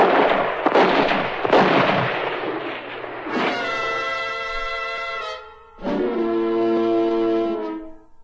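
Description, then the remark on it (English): A rapid, loud flurry of overlapping gunshots crackles for a few seconds, then gives way to two long, steady, horn-like tones with rich harmonics. “All right, then start shooting.”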